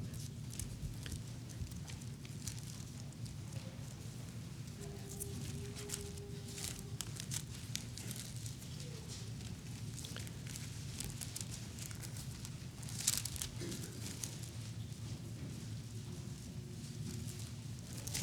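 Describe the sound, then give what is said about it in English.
Many Bible pages rustling and flipping at once as an audience turns to 2 Samuel 7 during a sermon, a steady crinkly papery wash with scattered sharp flicks over a low hum, no one speaking. “I like hearing all those pages rustling.”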